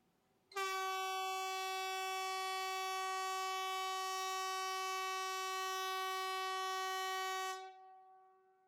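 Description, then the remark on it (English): An air raid siren sounds one harsh, horn-like blast at a steady pitch with no rise or fall. It starts abruptly, holds loud for about seven seconds, then cuts off into a brief fading tail. “I think it sounds more like a ship's horn.”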